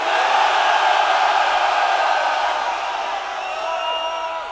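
A large concert crowd roars with sustained screaming and cheering, loud and dense throughout, easing off slightly toward the end, as the audience screams to vote for which title song the band should play.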